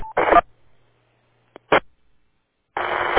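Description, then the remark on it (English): Short bursts of amateur radio static break the silence during a net check-in, including a quick microphone click and a brief squelch pop, then a longer band of hiss as a transmission keys up. No one speaks. “Just got a mic click on that.”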